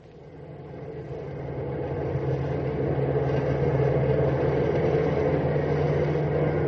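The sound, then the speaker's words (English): A steady, heavy engine roar of a large cross-country bus with 55 sleeping passengers driving through the night, a low rumbling drone with a constant hum that swells slightly and holds loud throughout, with no voices. “The large vehicle has a full load of 55 sleeping passengers as the bus roars through the night.”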